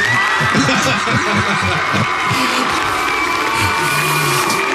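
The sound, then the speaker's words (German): A crowd applauds loudly and steadily, a dense wash of clapping and cheering, with low drawn-out boos rising from the audience underneath. “Ja, das sind aber auch Buhufe dabei, oder?”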